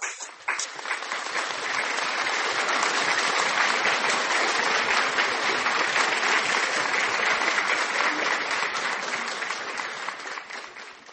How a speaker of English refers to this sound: Acclamons pour le Seigneur Jésus. Let us applaud for the Lord Jesus Christ.